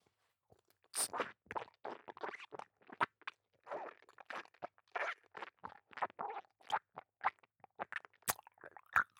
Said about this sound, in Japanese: 剥がれたチンカスの方は、 あなたの耳元で咀嚼いたしましょう。